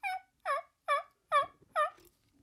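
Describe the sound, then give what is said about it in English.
A person imitates a hen turkey's yelp with their natural voice: five evenly spaced, raspy, high-pitched yelps, loud, with no other sound behind them. “But that give us a hen yelp to give listeners. That crap works. Natural voice.”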